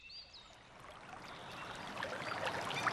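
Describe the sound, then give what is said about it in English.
Steady rushing of a flowing river, a broad continuous wash that swells slightly louder over the few seconds, with faint bird chirps above it early on and no voices. “arrive at a river.”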